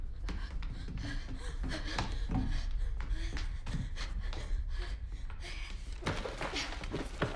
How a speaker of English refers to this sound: Sarah dashes to the front door and tries to pull it open. She remembers the key, but it's not on the hook.